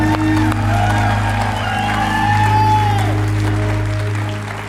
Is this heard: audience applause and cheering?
yes